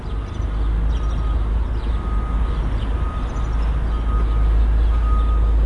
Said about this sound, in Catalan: i ens anem fins a la facultat de la Universitat Autònoma que tenim aquí a Sabadell. Més serenor, més tranquil·litat. Sí. Suposo que estan tots a classe. Ocellets, també. Mm-hmm. Algun cotxe que descarrega.